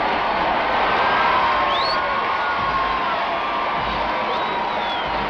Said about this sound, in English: In the same golden fairy tale coats that carried her to the coronation in June 1953, Her Majesty and Prince Philip, to the thunderous cheers of hundreds of thousands of her subjects lining the room.